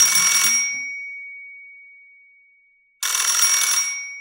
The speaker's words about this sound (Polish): Ledwie usiadł przy biurku, gdy odezwał się telefon.